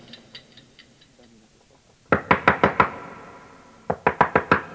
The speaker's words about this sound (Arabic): أسمع طرقا على الباب. هذا ليس موعد استيقاظي.